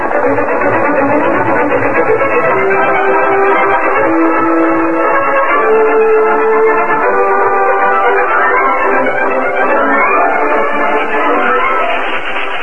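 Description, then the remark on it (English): A short train of a locomotive, tender, one car and caboose moves south along a Union Pacific spur line east of Frontier Town, a dense, continuous rumble and clatter with faint whistle-like tones, loud throughout with no one speaking. “A short train consisting of locomotive, tender, one car, and caboose moved south along a spur line of the Union Pacific that ran east of Frontier Town.”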